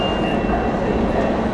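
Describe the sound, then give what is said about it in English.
A subway train, the L train, rumbles loudly and steadily as it pulls into the 3rd Avenue station, a dense roar of wheels and motor with a thin, high metallic whine running through it. “Train's coming and she's all like, quick honey.”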